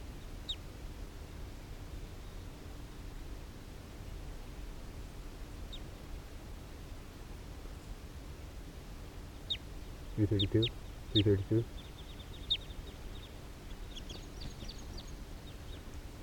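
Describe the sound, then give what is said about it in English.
Two short, raspy quacks from wild ducks come in quick succession midway through, over a steady hiss, with a few faint high bird chirps scattered around them. “Some of the wild birds are coming down here near 3:32.”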